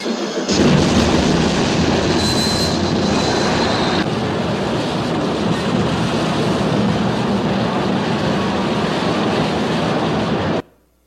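A loud, dense roar of a train wreck fills about ten seconds, heavy rumbling and grinding noise with a brief metallic screech early on, then it cuts off abruptly into silence.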